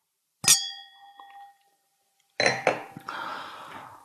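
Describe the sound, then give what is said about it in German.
Two champagne glasses clink once, bright, with a clear ringing tone that fades over about a second, followed after a pause by a burst of clattering and rustling handling noise. “Und dann sagte er zu der Fahrradklingel, gehören natürlich noch dazu zwei Champagnergläser.”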